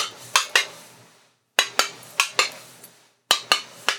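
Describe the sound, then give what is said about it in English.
Light, sharp tapping knocks by a steward on a door on a train, about a dozen in three quick bursts separated by short pauses, each tap bright and slightly ringing. No voices. “This is how he knocks on the door. Are you ready? Like that. Just a tap, tap.”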